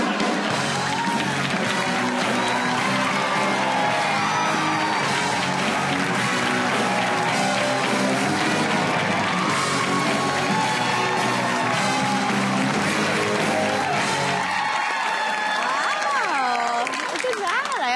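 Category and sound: crowd, audience applause and cheering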